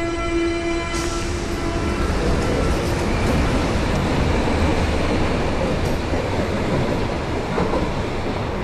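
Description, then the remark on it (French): A Berlin subway train rumbles along loudly and steadily, a brief high whine at the start giving way to constant roaring track noise with faint rattling, no voices. “Et oui, Berlin, c'est une ville de suspense et de métro.”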